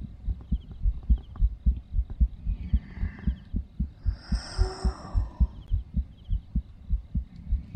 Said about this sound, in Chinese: 我要是太胖，你还能听到心跳。 对，对。滴滴，噔噔噔噔噔，砰砰。